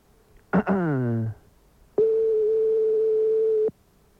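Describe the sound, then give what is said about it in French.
A single steady telephone ringback tone, a clear mid-pitched hum lasting about a second and a half, heard on an outgoing call to McDonald's. A brief falling voiced sound comes just before it. “C'est parti, ça sonne.”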